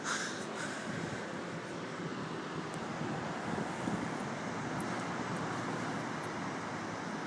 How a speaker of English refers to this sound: I can see them here, and they're coming in like 1,000 horses charging to the beach. And it's a beautiful sight as you can just see it lit and the white waves are crashing against the rocks.